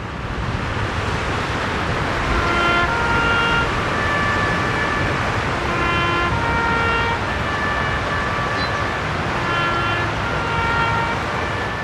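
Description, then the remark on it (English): A bugle plays taps in slow, sustained phrases of held notes at the World War II Memorial in Washington, D.C., where President Donald Trump laid a wreath for the 75th anniversary of VE Day. It sounds over a steady, loud rush of splashing water from the memorial's water feature throughout. “And President Donald Trump laid a wreath at the World War II Memorial in Washington, D.C., where taps was played over the sounds of the memorial's water feature.”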